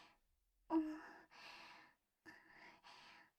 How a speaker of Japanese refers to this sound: 息遣いもちょっと荒くなってて